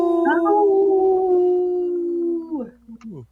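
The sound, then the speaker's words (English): Several voices howl together like wolves in three-part harmony, holding a long, loud, steady note for over two seconds before sliding down and ending in a few short, rising yelps. “Three-part harmony. Isn't that how that goes?”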